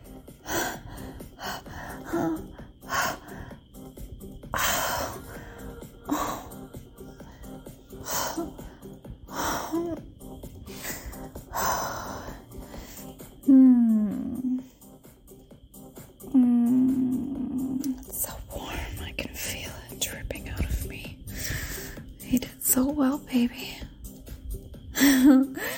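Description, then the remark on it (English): Heavy panting with sharp gasping breaths repeating in an uneven rhythm, broken by a couple of brief voiced whimpers, with no clear words. “Look at you all panting and flushed and so happy.”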